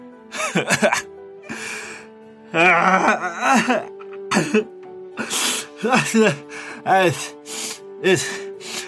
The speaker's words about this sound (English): Nobody understands your mumbling behind all that bawling. Now get yourself together. Wipe your face. Blow your nose and read it again.